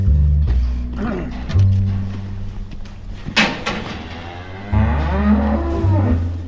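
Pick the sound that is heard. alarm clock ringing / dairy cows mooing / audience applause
dairy cows mooing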